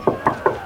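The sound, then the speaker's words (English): Three evenly spaced knocks on a door, each a short, resonant wooden rap, fairly loud, with no voices. “My team and I were over the wall, and I crept up, and I knocked on the door.”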